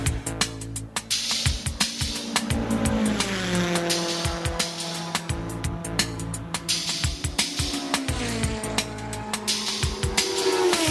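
Synthesized car sounds, steady engine-like drones with gliding pitch sweeps like revving and passing, accompanied by rhythmic electronic pulses, loud and continuous throughout with no voices.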